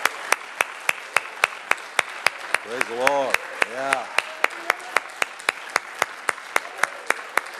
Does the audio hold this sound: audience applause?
yes